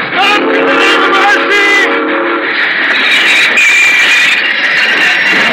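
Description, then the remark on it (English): A train grinds to a halt after a signal lantern is waved to stop it, its brakes letting out loud, wavering metallic squeals over a steady rumble that gradually settles into a broad hiss. No one speaks. “I'd stopped the train.”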